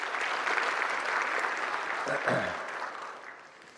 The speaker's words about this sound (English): let's give them a big round of applause for being here today.